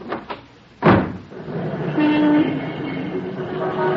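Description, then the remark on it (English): A couple of quick latch clicks, then a door, pointed out as the dressing room door but opening onto the street, thuds shut loudly, followed by a steady low rumble of background noise with a brief faint whine. “Open the door.”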